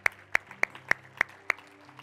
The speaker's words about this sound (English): Now, if you said that prayer, oh yeah, you clap for that. That's good. That's good.